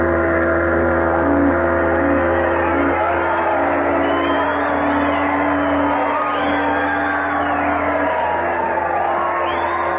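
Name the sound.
crowd shouting and cheering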